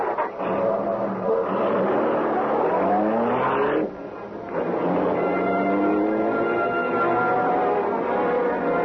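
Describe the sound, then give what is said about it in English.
A car engine roars as it accelerates hard through city streets at night, cutting past a trolley car, its pitch climbing through the gears, dipping briefly for a shift, then surging again in a loud, continuous rush. “We're moving so fast that police will not have a chance to know this is the Black Beauty.”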